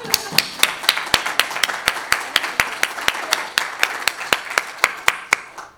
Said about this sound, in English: So just give her a round of applause.